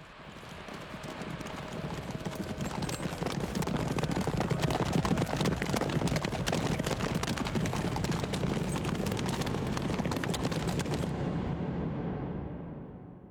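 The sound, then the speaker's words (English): A pack of racehorses gallops past in the Derby horse race: dense, rapid hoofbeats swell into a loud, rumbling thunder, hold steady, then fade quickly as the horses pull away. “threw herself in front of the King's Horse at the Derby”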